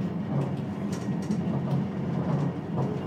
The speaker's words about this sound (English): Now, I'm in a Virgin toilet. Aha, I hear you cry. What's so funny about a Virgin train toilet? Well, when I press the lock button on the train door, or on the toilet door... Door locked.